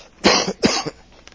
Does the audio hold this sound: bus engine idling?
no